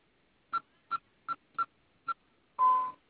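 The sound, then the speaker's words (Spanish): Five short, evenly spaced telephone keypad beeps as a caller enters a password and the number 1 during a customer service call, followed by a longer, louder tone lasting about a third of a second, with no talking. “Va a digitar su clave y el número 1, por favor.”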